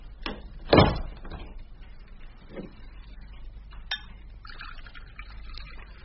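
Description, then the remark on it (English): A door swings shut with one solid, muffled thud, followed by a few faint clicks and light knocks against a low, steady background hum. No one speaks. “And close that door as you go.”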